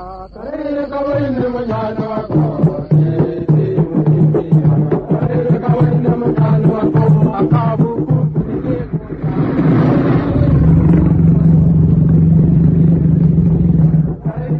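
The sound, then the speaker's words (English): Loud, steady drumbeats mix with a crowd of natives and coolies shouting and yelling together as they surround a thicket to drive out a lion, the din thickening into a deep, rumbling roar for the final few seconds. “It was worried by the drums and shouts of the natives and coolies.”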